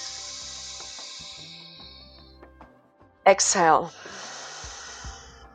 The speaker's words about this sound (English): So let's get that breathing going. Close your lips and just draw the breath through your nose. Keep the stretch and inhale.